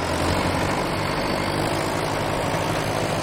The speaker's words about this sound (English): Cody stands near a tractor as it moves a piece of wood.